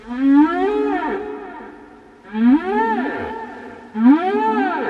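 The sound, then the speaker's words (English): Song of Migaloo, the rare white humpback whale, recorded in Harvey Bay off Australia's east coast in 1998: three loud, drawn-out tonal moans with rising and falling sweeps, repeating about every two seconds, clear with no voices. “When Trish and I encountered him for the last time in Harvey Bay in 1998, he was singing and we recorded his song, and he's quite a remarkable singer, I might add.”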